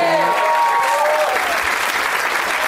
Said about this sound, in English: Let's not forget to give a round of applause to Jackie Cation, because...